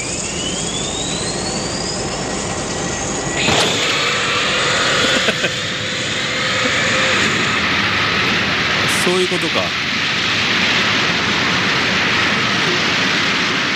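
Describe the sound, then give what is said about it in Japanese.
A jet engine spools up with a rising whine, then abruptly bursts into a loud, sustained roar of thrust. A voice speaks briefly over the engine noise. “エンジンを始動して噴射する瞬間が聞けるわけだ。”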